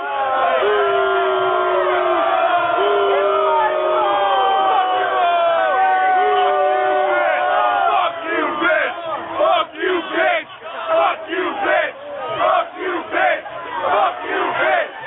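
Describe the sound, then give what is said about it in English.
A crowd at a Wiener press conference roars and cheers right after his speech, a dense, steady wall of raised voices for several seconds that then breaks into choppier bursts of shouting and whoops. “Okay, here's what the crowd sounded like earlier in the Wiener press conference.”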